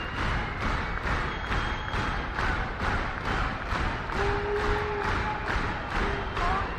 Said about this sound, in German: Solche Töne freuen Musiker natürlich. Wenn Leute so rhythmisch klatschen, dann heißt das, sie wollen noch mehr.